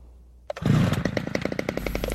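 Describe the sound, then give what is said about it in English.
Chainsaws roar to life after a brief quiet moment and keep running loud, their engines buzzing with a rapid, steady pulsing rhythm. No voices. “Οχ, τι είναι αυτά. Οχ. Πριόνια.”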